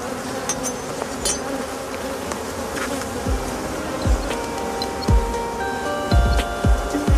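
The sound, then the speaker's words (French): A dense, steady hum of many honeybees buzzing around a busy, very strong hive holding about 40,000 to 50,000 bees, at the town apiaries of Vitry-en-Artois during a beekeeper's hive inspection, with individual bees swooping past in brief rising and falling whines, and no talking. “effectivement, l'autre ruche, c'est une ruche qui est très forte. En ce moment, il y a à peu près 40 à 50 000 abeilles à l'intérieur.”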